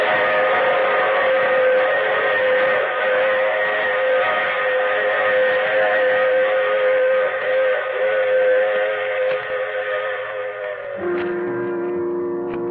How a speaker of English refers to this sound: I take this same train every week at this same time.